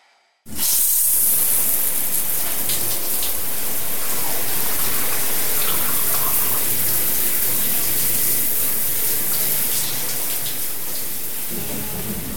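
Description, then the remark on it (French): Steady, loud hiss of several showers running together in the communal shower area of a facility, water spraying continuously across a broad band with a constant low hum beneath, for about eleven seconds. “Vous venez de pénétrer dans la partie douche.”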